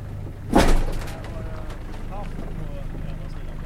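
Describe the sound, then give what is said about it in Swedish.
A sailboat's engine kicks in with a brief loud burst after the boat crosses the finish line of a race, then settles into a steady low hum that runs on under wind and water noise. “Sådär, då kunde motorn gå, ja.”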